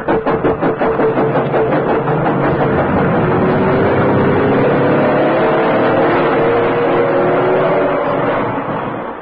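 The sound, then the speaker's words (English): A heavy lorry engine roars loud, revving up steadily as it pulls off from a road beside a railway embankment, its rumble holding strong before beginning to fade at the very end. “Waiting on the road by the side of the embankment were a couple of lorries.”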